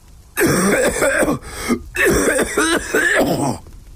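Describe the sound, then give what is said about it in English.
A person gags twice in quick succession at an overpowering smell while stepping into a room, each a harsh, strained retch from the throat with rough voiced heaving, loud and unaccompanied by speech. “I braced myself and gagged again as I stepped in.”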